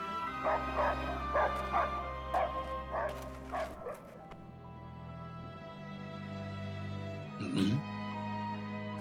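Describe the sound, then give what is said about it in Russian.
A dog lets out a quick run of sharp, yappy barks mixed with whiny whimpers, then falls quiet before one last whine, all over a steady low hum. “Кто-то идет впереди. Мужчина. Нет, собака?”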